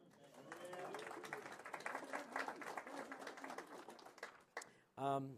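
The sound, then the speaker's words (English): A crowd applauds steadily for about four seconds, a dense wash of many hands clapping with a few voices mixed in, then it fades as a single voice begins speaking. “Applause, applause.”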